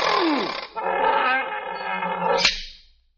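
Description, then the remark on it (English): A lion lets out one loud roar, a rough, growling bellow that holds for about two and a half seconds before cutting off sharply, with no talking around it. “You just walk over to the lion and take your two hands and you open his mouth like this.”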